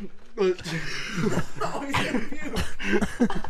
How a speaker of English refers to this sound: I just got the worst hiccups ever.